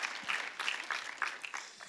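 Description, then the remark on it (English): An audience claps steadily for about two seconds for the camera team, a dense, even patter of many hands with no voices over it. “Can we give them a round of applause really quick?”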